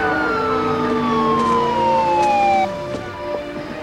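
emergency vehicle sirens

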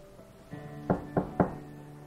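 knocking on a door

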